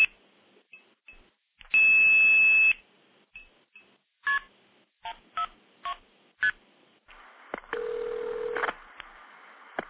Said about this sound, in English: Now, I can blow this call off by playing 2600, which will hang up and then cease to trunk. Really feel the depth of it.